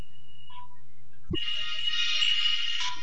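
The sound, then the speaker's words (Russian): A mobile phone ringtone plays: a thin high electronic tone and a brief lower beep, then a thump and a dense, bright, buzzing melody for about a second and a half. No one speaks. “Алло, пап, давай я позже перезвоню.”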